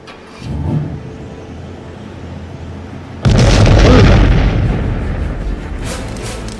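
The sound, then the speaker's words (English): A car engine turns over and rumbles low, then a sudden, loud explosion bursts out and roars on, slowly fading into crackling debris and rumble. No voices. “I bet you that was an electrical problem. Those cars suffered from electrical problems.”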